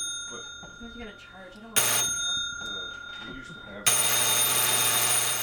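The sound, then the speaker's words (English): A door buzzer at Clarity's Cobbler Shop on College Avenue in Fayetteville, heard from the workroom, sounds loudly, first a short blast, then a longer sustained buzz, over people talking and a steady high-pitched electronic tone. “The door buzzer heard from the workroom of Clarity's Cobbler Shop on College Avenue in Fayetteville.”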